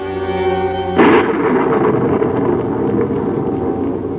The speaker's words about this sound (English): The rain came down like a million little hammers as I sloshed down the street. It was a tough night to be out